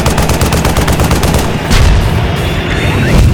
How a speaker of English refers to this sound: They're firing goddamn tank shells.